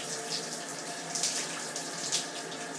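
Water runs steadily from a shower in the morning, a continuous hissing spray with no voices, holding an even moderate level and brief splashy surges now and then.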